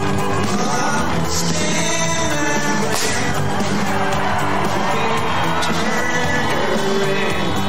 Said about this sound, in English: Well, except for one moment, when a confetti cannon went off, and based on the candidates' reactions, it doesn't look like they were expecting it.